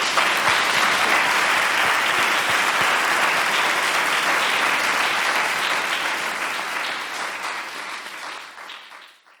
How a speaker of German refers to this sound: Ja, dann ein Applaus.